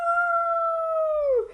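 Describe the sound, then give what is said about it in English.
A child's voice imitates a dog in a school playground at lunchtime, letting out a single long, steady howl that slides downward in pitch as it ends. It's fairly loud, with no talking. “… bounded about, howling like a dog.”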